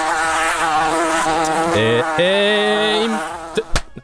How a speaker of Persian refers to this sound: بله این مگس خیلی داشت اذیت میکنه.